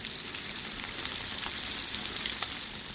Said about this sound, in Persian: اونا لگ هموگلوبین سویا و مخمر رو با مهندسی ژنتیک دستکاری میکنن و نتیجه‌اش چیزیه که طعم و رنگش مثل گوشته. برگری که با این روش ساخته شده موقع سرخ کردن مثل گوشت واقعی جلز و ولز میکنه.